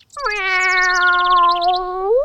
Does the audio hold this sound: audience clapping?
no